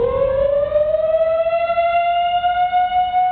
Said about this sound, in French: La sirène, l'évasion a été découverte.